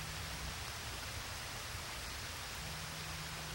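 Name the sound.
heavy rain pattering down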